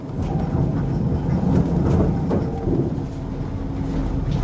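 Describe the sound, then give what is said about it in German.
A steady, dense rumble of trams and trains at a railway station in Erfurt, Thuringia, with a low mechanical roar and occasional faint clanks and squeals, continuous and fairly loud throughout. “Dass der Bahnhof und die Straßenbahn barrierefrei ist, würde mir unter normalen Umständen nicht auffallen.”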